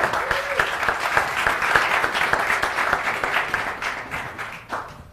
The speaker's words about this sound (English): So let's just start by giving the panelists a round of applause.